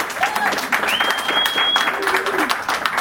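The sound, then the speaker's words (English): An audience claps steadily throughout, a dense, continuous patter of many hands at moderate volume, with faint voices and a thin whistle-like tone rising above the applause. “I would ask that you would refrain from clapping when somebody's speaking.”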